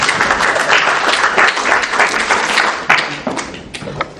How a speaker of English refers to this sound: You guys, a round of applause for their acting skills.